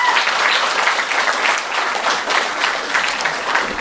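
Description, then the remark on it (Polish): Steady audience applause for the introduction of the jury chairman, a dense crackle of many hands clapping at a fairly loud, even level throughout, with no voices standing out. “poproszę o brawa również.”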